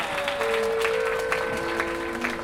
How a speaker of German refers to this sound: Einen Applaus